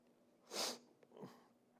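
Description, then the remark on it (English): Two sniffles from a person with the sniffles in quick succession, a sharp airy intake followed by a softer one about half a second later, with no talking around them. “Sorry, I have the sniffles.”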